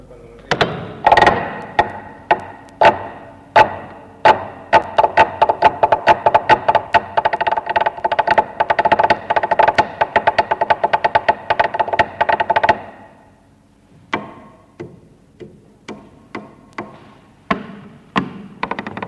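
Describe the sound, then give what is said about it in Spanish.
Rapid, sharp flamenco heel stamps (taconeo) by Vicente Escudero clatter in quick rhythmic bursts over a sustained tonal backing, a seguiriya with drums from Fuego en Castilla on an original open-reel mono tape, which stops near the end, leaving sparser, uneven taps ringing out alone. “Sí, antes hemos escuchado la materia prima, el taconeo, y aquí ya está batido, como diría mi tío Gonzalo, que siempre dice que Valdelomar batía los sonidos, y es un poco cierto, ¿no?”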